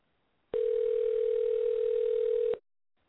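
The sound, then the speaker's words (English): A telephone dial tone as a call is being placed: one steady, unbroken mid-pitched hum that starts abruptly, holds loud and even for about two seconds, then cuts off cleanly. No voices. “All right, folks, we've been talking to Zane Mitchell, and we're dialing him right now.”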